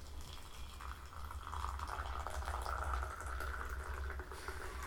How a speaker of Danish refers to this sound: Jeg øser lige noget kogende vand op i vores tebrev.